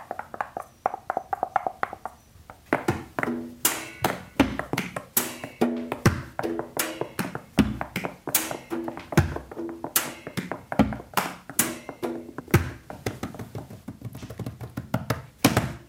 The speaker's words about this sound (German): Vielleicht noch an die Wand klopfen.